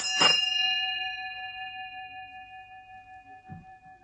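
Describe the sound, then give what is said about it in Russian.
A small Valdai handbell, cast by old master craftsmen, is struck once, its bright metallic ring lingering and slowly fading over several seconds; a faint soft knock follows near the end. “Колокольчик дар валдает, валдает, их отливали старинные мастера.”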